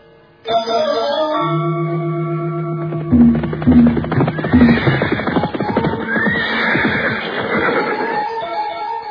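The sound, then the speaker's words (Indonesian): A horse whinnies with high, wavering cries over a busy clatter of hooves as riders set off along a riverbank, following a sustained tonal drone at the start; the whole scene is loud and dense, with no one speaking. “Kita akan berkuda menyusuri tepian sungai ini.”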